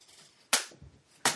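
Two sharp, loud smacks of a hand chop striking someone's body, spaced less than a second apart, close by and with no talking in between.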